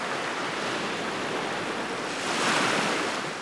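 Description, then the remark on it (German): Ocean surf rushes steadily with a broad hiss, then one wave swells and breaks louder near the end before easing back. No voices, just continuous sea noise. “Ach, ich höre schon das Meeresrauschen.”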